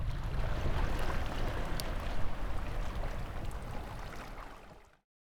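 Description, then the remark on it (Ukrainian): Steady, full-bodied wash of surf rolling and churning on a moonlit night in Yevpatoria, like waves breaking on a shore, with a broad rushing hiss that fades out near the end. No voices. “Шум прибою місячної ночі.”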